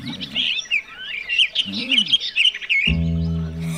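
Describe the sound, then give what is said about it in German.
Several birds chirp and twitter busily in quick, overlapping high calls, steady throughout, with a brief low voiced sound mixed in and a louder low tone near the end. “Vogelsprache. Bekomm es doch selbst heraus, Captain Großklappe. Was soll das heißen? Hey, ihr Zwitschernasen, was heißt Drüdrüdrüdrü hier?”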